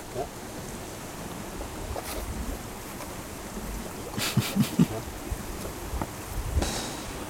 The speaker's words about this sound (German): Hörst du das? Das Blubbern.